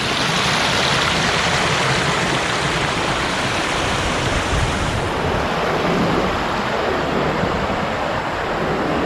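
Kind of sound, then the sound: nature, water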